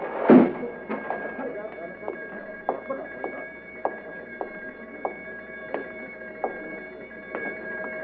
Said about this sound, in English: Wait. The door. Metal door sliding shut.